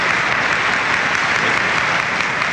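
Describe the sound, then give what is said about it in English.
An audience at the Academy Awards ceremony applauds, Paul Newman among those clapping, in a dense, steady wash of clapping that holds at an even, loud level throughout, with no voices rising above it. “you see Paul Newman clapping in that bust.”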